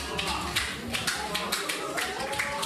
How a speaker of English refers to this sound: On May 30th, Arkady Babchenko, a Russian journalist and critic of Russian President Vladimir Putin, walked into a news conference that was hastily arranged by Ukrainian security services. The stunned audience applauded.